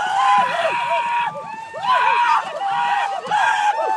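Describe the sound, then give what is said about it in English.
A crowd of supporters on land cheers and whoops as a canoe comes ashore at the end of the day, many overlapping voices rising and falling in three loud surges with high, wavering shouts and calls over a steady roar. “When the canoe comes ashore at the end of the day, supporters who follow along on land are there to cheer.”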